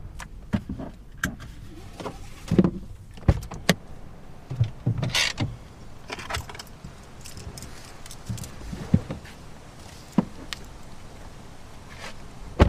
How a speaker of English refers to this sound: He steers the car along a suburban street and pulls into a driveway.